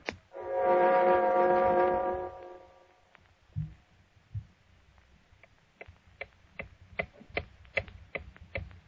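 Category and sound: household object, clock ticking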